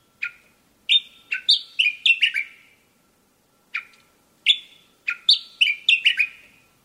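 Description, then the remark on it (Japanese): Gray's grasshopper warbler singing in the breeding season beside the window of a detached house, two phrases, each a lone clear whistle followed by a quick run of bright, slightly descending notes, with a short pause between them and no other sound. “繁殖期にはこうして昼夜を問わず歌うエゾ潜入。”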